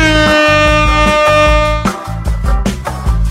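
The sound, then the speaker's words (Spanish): A loud, sustained horn blast blares for nearly two seconds over a thumping rhythmic beat, then gives way to a busier burst of music. “Extrañaba la bocina, la verdad.”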